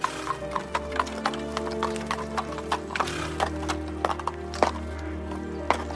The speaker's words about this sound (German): Als die Pferde endlich da sind, heißt er den jungen Kollegen herzlich willkommen und möchte ihm mit dem Gepäck helfen.